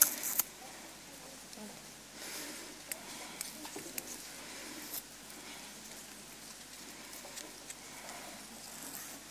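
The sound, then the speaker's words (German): A strip of Tesa adhesive tape is pulled and torn off, a dry rasping crackle with a few sharp ticks, fairly quiet, with faint murmuring in the background. “Und gebe dir so ein Stück Tesa.”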